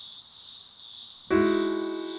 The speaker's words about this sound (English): That cicada recording was sent in by Jonathan Williams,